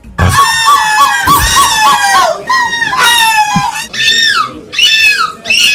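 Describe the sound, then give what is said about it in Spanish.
A woman's voice imitates a seagull in the winning entry of a seagull-imitation contest, letting out a series of loud, shrill, wavering squawks and cries in several bursts, with rapid warbling yelps rising and falling in pitch. “Oye, ¿podemos escuchar, por favor, el audio de la ganadora del concurso de gaviotas?”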